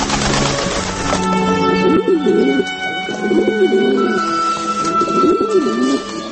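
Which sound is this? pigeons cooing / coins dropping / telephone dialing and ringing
pigeons cooing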